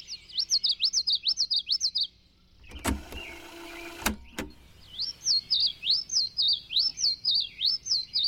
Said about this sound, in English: And boom! Oh my God, there's twice as many, three times as many birds in the forest singing now as I had perceived. There's this flood of birdsong going on, and I'm detecting a very small part of it.